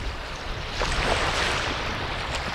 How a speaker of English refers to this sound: It's a bitter cold Thursday evening at the South Dam area of Lake Thunderbird, and as the darkness sets, the brown, murky waves surge toward the shoreline, retreat, and surge again.